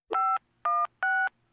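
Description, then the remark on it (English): Three short touch-tone telephone dialing beeps, each a steady dual-pitched tone lasting about a quarter second, evenly spaced and fairly loud against a quiet background. “And now, a call from”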